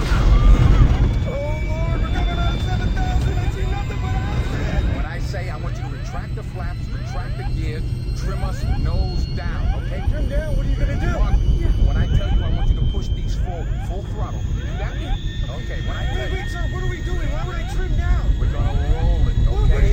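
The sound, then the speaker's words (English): A loud, steady roar of an airplane, Southjet 227, in an uncontrolled steep dive toward the ground in a clip from the film Flight, relentless, while the pilot and co-pilot talk tensely over the rumbling engine noise, fighting to regain control. “They began with a clip from Flight, in which the pilot and his co-pilot are fighting to regain control of their plane as it plunges toward the ground.”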